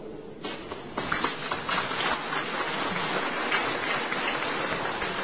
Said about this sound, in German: Und das ist ein Beifall. Herzlichen Dank für diesen dankenden Beifall.